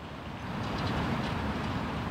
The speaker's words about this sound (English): Memorial Drive in Cambridge is a busy thoroughfare full of traffic. It's right across the Charles River from Boston, an unlikely place to look for edible plants.